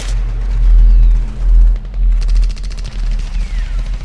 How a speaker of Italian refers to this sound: Cosa sono quegli spari?